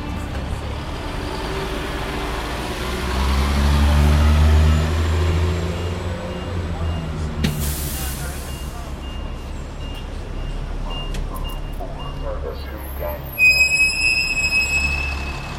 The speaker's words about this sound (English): The sound of the Federal Street bus stop in the Financial District.